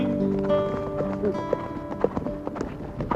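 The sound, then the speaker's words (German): Horses walk in the open country of northeastern Germany, hooves clip-clopping at an unhurried, uneven pace, a handful of distinct knocks standing out over a steady humming, tonal background. “waren mit Pferden und Menschen unterwegs.”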